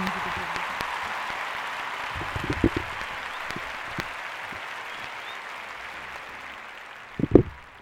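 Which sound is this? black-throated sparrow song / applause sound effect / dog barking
applause sound effect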